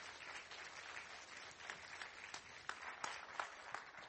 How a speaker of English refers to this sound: We're very grateful as well to the showroom and to everyone who's done the sound and the visuals. Please, would you give them a round of applause and thank them.